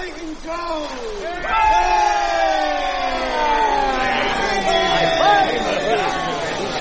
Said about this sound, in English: And from the ship, mighty cheers arose, as up to the main fluttered an accursed flag, skull and bones.